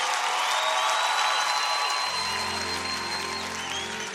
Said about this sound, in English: Give Jesus a correct, wonderful head of applause in this place.